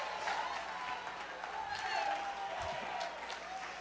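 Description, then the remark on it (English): A church audience claps their hands in steady, dense applause to give praise to God, carrying on without a break, with voices calling out and mixing into the clapping. “If you are a tither of gratitude, clap your hands and give him praise.”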